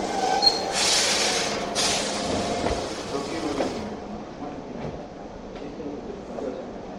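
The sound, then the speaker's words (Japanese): A limited express train bound for Kyoto Sanjo, departing at 17:15, rumbles steadily along the rails, with a bright hissing rush over the first few seconds that then settles into a lower, continuous rolling drone. No one speaks. “この電車は17時15分発の京都三条行き特急です。”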